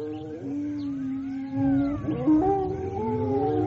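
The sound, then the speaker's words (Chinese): Several wolves standing on a hilltop behind howl together in long, overlapping wails that rise and slowly fall, forming a continuous eerie chorus. The howls are fairly loud, and no one speaks. “果然，后面的山头上隐隐约约的站着几匹恶狼，他们的叫声十分可怕。”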